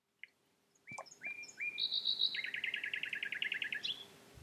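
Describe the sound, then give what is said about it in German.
A nightingale sings a short, varied phrase: a few clear whistled notes, then a fast rapid trill of repeated chirps, fairly loud over a soft background hiss. “Und nur die Nachtigall sang noch eine kleine Melodie.”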